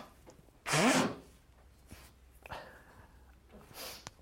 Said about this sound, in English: It wasn't an elephant, it wasn't Hadoop in the room, it was just me sneezing and blowing my nose.